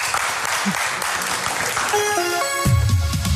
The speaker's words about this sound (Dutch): En een groot applaus voor jullie. Dank je wel.